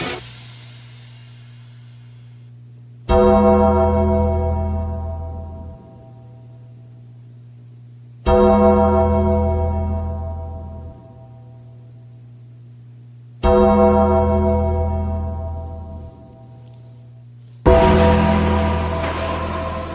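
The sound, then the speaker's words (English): A gong is struck four times, about five seconds apart, each loud hit ringing out and slowly fading over a low, steady droning hum, with no voices, signalling the Undertaker's entrance on WWE Monday Night Raw. “It's a gong.”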